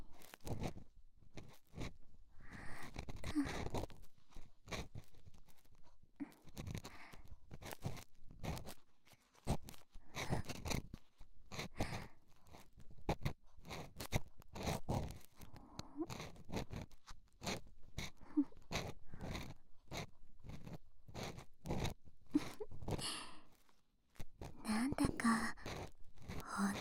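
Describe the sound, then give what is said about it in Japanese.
Soft, irregular scratching and crunching from an ear pick working inside an ear, with brief dry scrapes and crackles in uneven bursts, alongside occasional quiet whispering. “はーい、こーりこーり、耳かき気持ちいいかな。”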